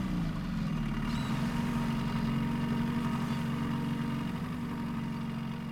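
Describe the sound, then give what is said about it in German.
A refugee boat's motor drones steadily at sea on the way to the Greek island of Chios, a constant low mechanical hum with a buzzing tone that holds at the same level throughout, with no voices. “Wer steuert den Motor?”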